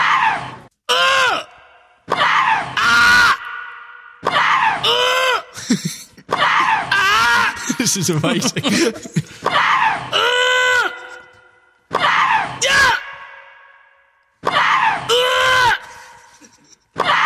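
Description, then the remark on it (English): A voice imitates Maria Sharapova's grunts in a tennis rally, trading loud, high shrieking cries with swooping pitch roughly every second, about a dozen in all, with a brief spoken remark. “I'd love to hear you play tennis. Really? Do a rally with Sharapova.”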